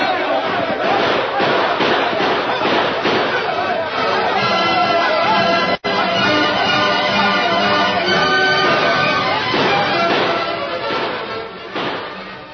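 Heavy gunfire rings out in rapid, overlapping volleys, loud and continuous for several seconds, shots echoing and blurring together over shouting, as a sheriff's posse and an outlaw gang exchange fire in a canyon at night.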